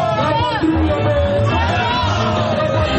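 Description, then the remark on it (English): A large crowd gathered at one of the main squares in Burkina Faso sings the protest motto "Our Homeland or Death", from revolutionary figure and former president Thomas Sankara, many voices blending into a loud, continuous swell of chanting with scattered shouts and whoops rising above. “The crowd could be heard singing Our Homeland or Death, a motto from Burkina's revolutionary figure and former president, Thomas Sankara.”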